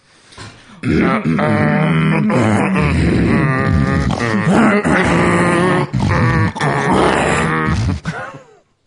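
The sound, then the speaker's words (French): A voice imitates a wild boar, making loud, continuous guttural grunts and snorts for about eight seconds, with rough rhythmic pulses and a few brief breaks before trailing off. “C'est super bien le sanglier”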